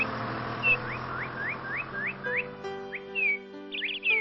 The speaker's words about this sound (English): Good day to you, children. I am the eagle. We are majestic birds with strong legs, claws, and a strong curved beak.